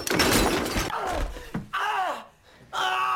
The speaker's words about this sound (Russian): Я ничего не вижу. Конечно, ты, блядь, не видишь, я тебе, блядь, холостым в глаза выстрелил только что.